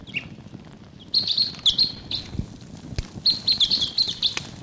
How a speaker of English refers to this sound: Type 6. Wild bird calling in the distance there.